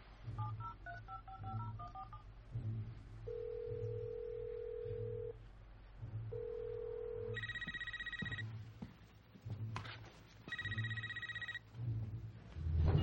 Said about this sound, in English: Sure. Let me just isolate the sound. You're thinking what I'm thinking. My cell phone app can dial the number from the tones.